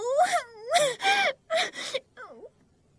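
A child cries and wails in several loud, rising and falling bursts with sharp catches of breath between them, ending in a softer, wavering whimper.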